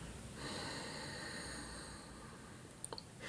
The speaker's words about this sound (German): Wir atmen gemeinsam aus, um unseren Atem zu synchronisieren.